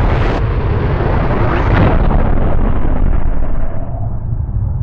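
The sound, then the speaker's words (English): A loud, sustained explosive rumble of the atmosphere crashing back into place roars continuously, with heavy low-end boom and broad crackling noise that slowly fades in brightness over about five seconds. No voices are present. “Later, I had no idea how much later, we heard the atmosphere crashing back into place.”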